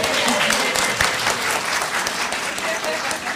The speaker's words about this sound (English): Yeah, we can clap a little.